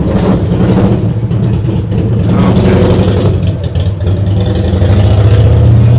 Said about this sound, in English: I'm getting a revving engine. Here he goes. And a Midas muffler.